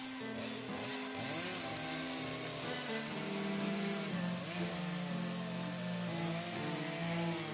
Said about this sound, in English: Place any pretty, blonde, unassuming, and preferably dull-witted assistant into the wooden box, just head and feet protruding on either end. Cut on center with a chainsaw.